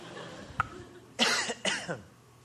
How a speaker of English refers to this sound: I have one of those crazy, I'm about to cough, but it just will not manifest itself right now.